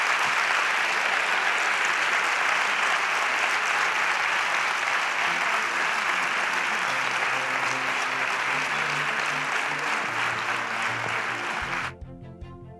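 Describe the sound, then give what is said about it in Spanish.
Sustained audience applause, a dense steady clatter of many hands clapping for about twelve seconds, with faint low tones emerging toward the end before it cuts off abruptly. “Y ahora, como broche final para despedirnos, les invito a aplaudir por todas esas personas que han demostrado esa entereza y esa humanidad.”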